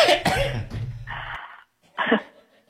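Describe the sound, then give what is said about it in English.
A man coughs in a harsh fit: a rough burst of hacking, a raspy wheezing cough, then after a brief pause one more sharp cough. “See, he coughed. He caused himself to go into a coughing.”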